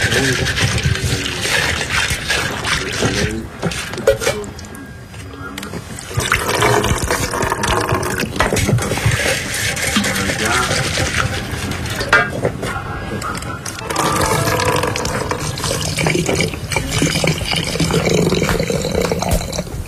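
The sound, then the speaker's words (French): Liquid pours and sloshes steadily in a terracotta coffee pot, a dense, rushing watery sound that runs almost continuously for the whole stretch, briefly softening twice before surging back. “Une cafetière en terre cuite.”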